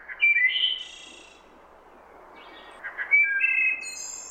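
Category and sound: bird, wood thrush song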